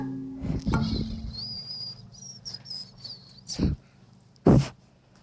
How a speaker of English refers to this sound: I actually whistled.